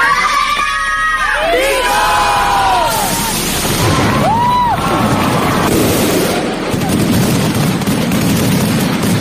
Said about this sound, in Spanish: Posteriormente, el grito al unísono de las reinas.